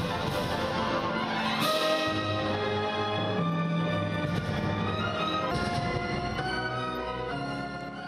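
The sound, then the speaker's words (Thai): An orchestra of employees of the German software company SAP plays a full, sustained passage as an after-work activity, violin and cello lines layered over trombone, holding steady loudness throughout with no voices. “เรามีบทเพลงบรรเลงออเคสตราหนึ่งบทเพลงมาให้ฟังกันค่ะ”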